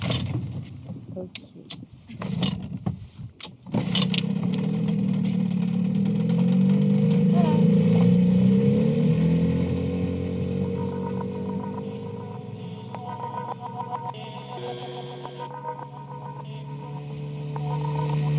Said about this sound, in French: J'espère juste qu'on va pouvoir bien démarrer parce que ce moteur, il déconne tout le temps.